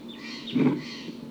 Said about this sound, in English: There are wild birds here. Calling less now.